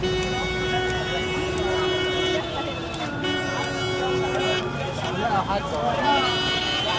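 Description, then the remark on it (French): Car horns blare in busy, saturated city traffic in Cairo, one long steady honk held for several seconds over a dense roar of engines and street noise, with voices faintly mixed into the din. “Cette ville tentaculaire est surpeuplée. La circulation saturée.”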